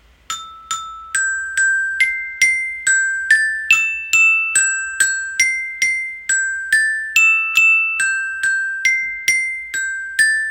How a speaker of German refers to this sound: Diese hohen Töne, die dazukommen, die musst du dir eigentlich tiefer vorstellen. Aber das Glockenspiel war sehr limitiert. Also diese zwei hohen Töne, die sind eigentlich 5 Oktaven drunter statt drüber.